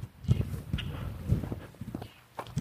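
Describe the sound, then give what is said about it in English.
A hand slaps the reflector on a post set in the middle of a double-wide residential sidewalk to keep motorists off it, as done every morning: a short, flat smack heard among a few soft, irregular footsteps, with no talking. “And it's a reflector on it, which is what you hear me slap every morning.”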